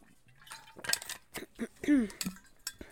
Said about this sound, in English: Hold on, sip of water.